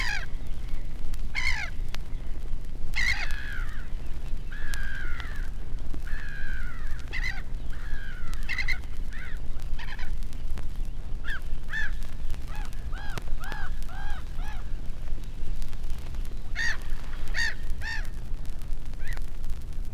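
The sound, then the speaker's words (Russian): Black-headed gulls hunting and diving into the water from height call over and over in harsh, scratchy cries, several birds overlapping in quick bursts as if bickering, over a steady low rumble of wind or water. “Охотятся речные чайки, с высоты бросаются в воду, кричат, ссорятся.”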